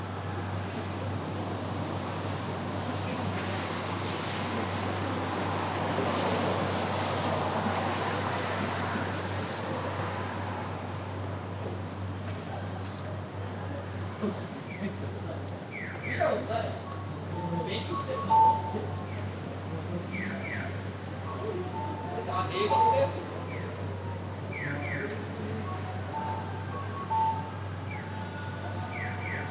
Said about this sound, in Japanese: こちらは昨年の4月30日から5月1日、まさに平成から令和に切り替わる瞬間を仙台駅前の交差点で録音したものです。何の変化もない街の音ですが、確実にこの瞬間から新しい時代が始まりました。今まさに令和に切り替わった瞬間です。